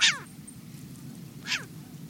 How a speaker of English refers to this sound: It's a short-eared owl, an owl especially adapted to hunt during the day. Short-eared owls are found on grasslands and tundra and along coastlines.